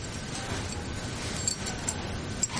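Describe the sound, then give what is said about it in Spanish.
A few faint, brief metallic clinks as a set of keys is picked up and jangles softly, over a steady low background rumble. No one speaks. “Coge unas llaves.”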